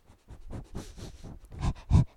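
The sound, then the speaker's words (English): A dog panting right up close to the microphone, quick breathy huffs repeating in a steady rhythm and growing louder toward the end, with no one speaking. “put your mic to him. Maybe hear him panting.”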